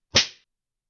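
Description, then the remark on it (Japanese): A single sharp whip lash swishes through the air and lands on flesh with a loud crack and a fleshy smack, then quickly fades into silence, with no voices present. “ムチが風を切る音。MO の打肉を引っ叩く音。”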